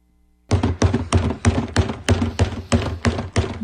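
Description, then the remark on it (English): Someone bangs on a trash can in a fast, steady rhythm: about ten loud, hollow, booming thuds in quick succession after a moment of silence, with no voices. “LaCroix added that he never heard the banging of a trash can, so we're going to help him here with that.”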